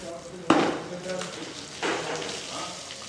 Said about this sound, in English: First things first, each horse is bathed. Specialist Christopher Calhoun hoses down a tall black one. This is Omar. He likes to bite and drink at the water, and he'll smile when I spray his face.